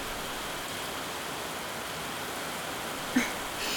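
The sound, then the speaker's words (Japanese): Sudden, steady, heavy rain pours down in a dense, even hiss with no letup, enveloping, broken only by a single faint tap near the end. “うっそ、今日も図書館に向かうつもりだったんだけど、まさか急にこんな大雨が降ってくるなんて。”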